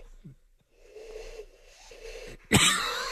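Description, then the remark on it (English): A breathy, hollow owl-like hoot made by a man blowing into his cupped hands, held in a couple of wavering tones, then cut off by a sudden loud burst of noise. “He's like breathing into his hands. Do the owl one again.”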